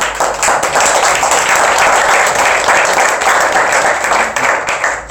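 A crowd applauds steadily, many hands clapping in a dense, loud, even wash of sound that holds for about five seconds and begins to thin at the end.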